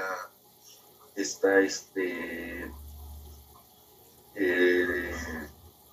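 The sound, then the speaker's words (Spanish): Water from the aquariums pours steadily into the first filter chamber, which holds moving K1 media, a low continuous splashing rush running under a man speaking in short bursts with pauses between. “Es donde cae todo la primera agua que viene de los acuarios.”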